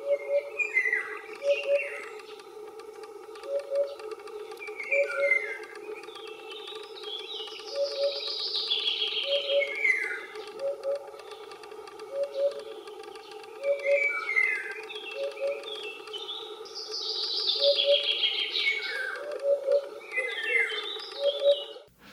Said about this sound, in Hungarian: De a bubosbanka jellegzetes uppugós hangját is sokszor lehet hallani a területen.